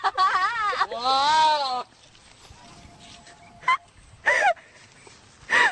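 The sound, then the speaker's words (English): A recording of a goat, played on a radio station and said to sound like Jerry Lewis, bleats in a loud, wavering, almost human-sounding voice: a long quavering cry, then a few shorter, sharp bleats separated by quiet pauses. “But also the goat sounds just like the great Jerry Lewis.”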